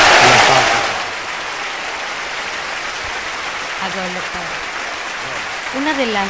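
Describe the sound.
An audience applauds a song steadily, loudest at the start and then holding at a dense, even patter, while a voice speaks briefly over the clapping.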